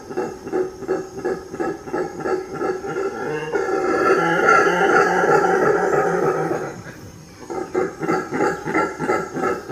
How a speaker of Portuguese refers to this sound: Meu Deus, o bugio é assustador. Tô falando. O som dele é que é foda. Eu vou colocar pro ouvinte ouvir, pro ouvinte não ter que ficar procurando. Depois eu vou procurar o som de bugio. Deixa eu ver aqui.